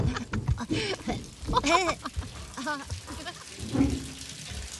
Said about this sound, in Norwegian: Bo klatrer opp i badekaret mens mamma skrur på krana. Snart dekker det varme vannet nesten hele Bo.